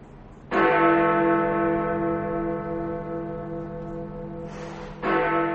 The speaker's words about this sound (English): And the chimes of Big Ben mark the 11th hour of the 11th day of the 11th month, the moment when the guns of World War I fell silent.